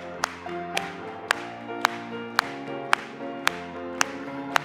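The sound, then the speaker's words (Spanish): Steady rhythmic clapping from an audience, sharp claps landing about twice a second in even time, over sustained musical tones that continue underneath. “Vamos a aplaudirle.”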